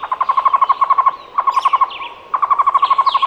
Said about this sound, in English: So hopefully, after hearing this story, you might be inspired to work with the Cuban people to make sure we can keep seeing these birds in the wild and painting this bird in our memories. Just remember, never in a cage.